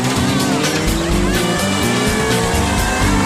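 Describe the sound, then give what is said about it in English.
A motorcycle engine revs hard on a dyno, reaching over 135 miles an hour without moving, loud, its whining pitch climbing steadily through a few seconds of continuous roar. “Basically, he got to drive a motorcycle over 135 miles an hour without moving an inch.”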